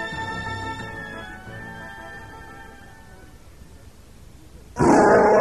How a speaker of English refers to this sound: Chewbacca roared his rage.